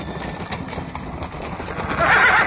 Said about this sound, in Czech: Bogosti, doktore, preklinjem vas, požurite, već se smrkava, a i konji su nešto uznemireni, kao da se plaše, vidite i sami.